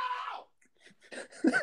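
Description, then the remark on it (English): A faint, muffled scream from another room, as if through walls, followed by a few quieter vocal bursts and shuffling sounds. “I'll leave my phone in the living room, and I'm gonna go in my room and scream.”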